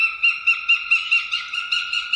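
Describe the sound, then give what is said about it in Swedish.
A northern goshawk calls from a treetop in a deep forest, a steady rapid series of about ten harsh, nasal notes in even rhythm, loud and clear with no other sounds around. “Nu är vi inne i en djup skog och från en trädkrona hör vi en duvhök.”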